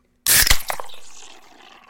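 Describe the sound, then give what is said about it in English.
A Guinness beer can cracks open with a sharp metallic snap, followed by a loud fizzing hiss that slowly fades, with no talking. “If you guessed a Guinness, you are correct.”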